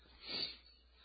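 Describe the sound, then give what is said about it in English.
One short, breathy sniffle, a quick nasal intake of air, fairly soft, with no talking around it and only faint background hiss. “Sorry for sniffling.”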